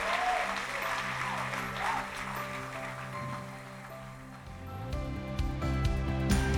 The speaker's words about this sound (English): Come on, let's give Jesus a mighty hand clap of praise.